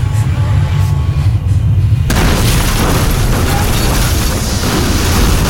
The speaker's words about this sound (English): And the building implodes in fire and lightning and light and flame. In the instant of destruction, Ishtar's face, huge and amorphous, seems to appear in the fire, screaming in horror and terror and triumph.